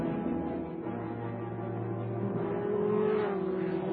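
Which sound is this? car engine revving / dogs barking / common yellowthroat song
car engine revving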